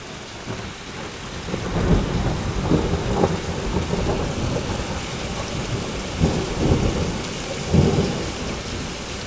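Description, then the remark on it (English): Thunder rumbles and booms in several bursts over a dense, steady roar of hail bouncing down and heavy rain lashing down during a bad storm in Normanton, with no voices. “Just waiting for a nice big crack of thunder now for effect, you know, here we go.”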